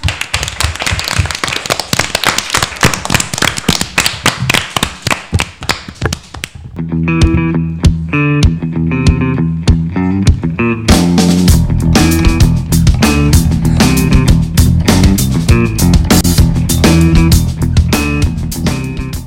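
A burst of dense, crackling applause for a school cook fills the first six seconds, then gives way to loud, rhythmic music with a steady, punchy beat that carries through to the end.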